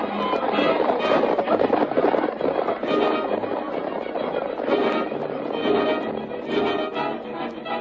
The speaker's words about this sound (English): A lifted hand, a sharp command, and the troop was racing in pursuit of the masked man whose great white horse was thundering toward the timber at the foot of the hill.